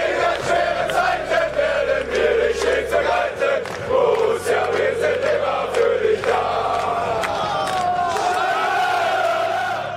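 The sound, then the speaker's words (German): A large crowd of Borussia Dortmund football fans in tight black-and-yellow plastic shirts shouts and roars continuously in Madrid, where their team was playing. Overlapping bellows and chant-like cries form a loud, dense wall of voices that rises and swells throughout. “um dann die Madrilenen auf eine Weise durch Geschrei zu erschrecken, wie es in diesem Beispiel geschah, als die Fußballmannschaft von Borussia Dortmund in Madrid spielte.”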